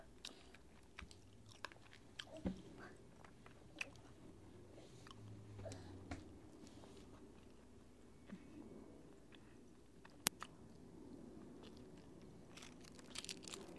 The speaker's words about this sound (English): You don't know how to chew your food up yet.